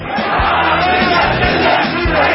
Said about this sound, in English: Shouts of "Death to America" was being called out in Baghdad among thousands of mourners in a funeral procession for Iranian General Qassem Soleimani, who was killed in a U.S. airstrike.